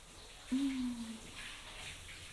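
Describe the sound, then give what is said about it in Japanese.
A steady, soft hiss of warm shower water spraying as it rinses a person, with a brief low humming tone rising early on before fading back into the continuous rush. “はい、一回シャワーで流すよ。”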